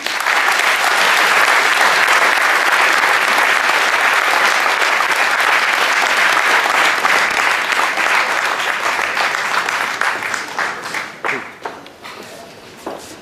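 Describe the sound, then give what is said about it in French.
Loud, sustained applause from a large audience, a dense roar of clapping that holds steady for about ten seconds before thinning into scattered claps and fading out. “donc je vous demande de faire un tonnerre d'applaudissements”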